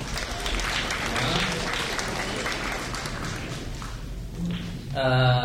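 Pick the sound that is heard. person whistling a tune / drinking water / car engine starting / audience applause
audience applause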